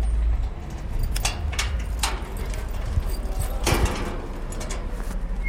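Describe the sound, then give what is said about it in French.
A metal gate is opened to let a visitor in, with a series of sharp clacks and rattling latch noises, followed by a louder scraping clank, over a steady low outdoor rumble with no one speaking. “Ah, j'entends qu'on vient m'ouvrir.”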